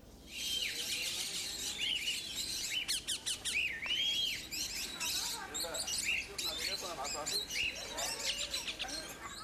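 exotic birds chirping

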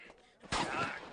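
gunfire

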